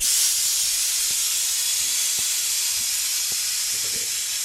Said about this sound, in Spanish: El sonido que indica que la goma se está despresurizando. Está soltando el aire la goma y ahora cuando ya termina de soltar todo el aire podemos entrar.